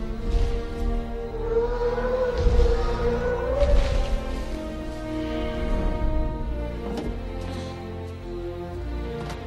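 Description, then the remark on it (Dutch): Deep, drawn-out whale-like calls of a Brachiosaurus in the film Jurassic Park, moaning tones that slowly glide in pitch over a steady low rumble, fairly loud, with no one talking. “Het zijn een soort walvisachtige geluiden.”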